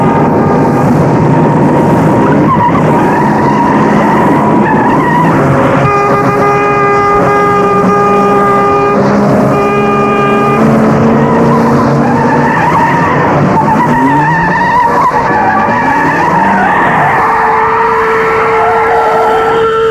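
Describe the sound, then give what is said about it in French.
A car engine roars loudly as tires squeal and skid in long, pitched screeches, the engine revving and sweeping in pitch as the car tears away. No one speaks. “Jeté de l'extérieur du palais, mis dans une voiture.”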